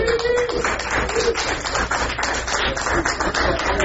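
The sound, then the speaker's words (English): An audience at a Bash Shell Scripting for Newbies session applauds the people who provided food, with dense, overlapping claps forming a loud, even wash of sound that holds for the whole four seconds, with a brief high cheer or whoop near the start. “That should be rigorous applause.”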